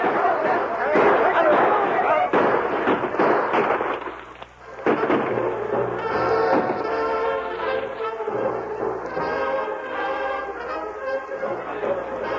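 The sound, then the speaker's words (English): A loud, chaotic burst of overlapping gunshots in a western shootout on a street, as Tonto and Fulton's trail crew of cowboys fire on Brent's men, fills the first few seconds, then breaks off and gives way to sustained, swelling musical tones. “Stay under that desk until the shooting stops.”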